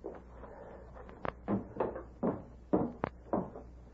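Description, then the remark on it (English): A house door being pushed wide open, heard as a series of wooden creaks and sharp clunks spread over a few seconds, with no voices. “Door wide open.”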